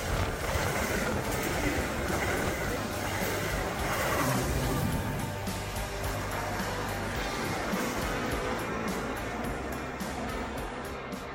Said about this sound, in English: Metra commuters, your attention please. The next Metra train approaching your station will be a Metra Express train and will not stop.